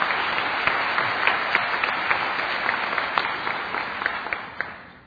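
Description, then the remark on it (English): An audience gives the speakers another round of applause during a question session: a dense wash of many hands clapping with scattered sharper claps standing out, holding a fairly even loudness for about five seconds before easing slightly. “So I just wanted to give you all another round of applause.”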